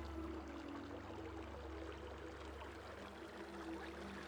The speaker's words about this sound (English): Is there something beneath the carpet? It's rippling.